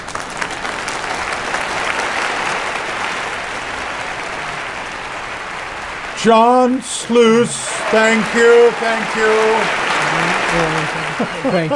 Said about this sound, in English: The amount of applause there just was inspiring.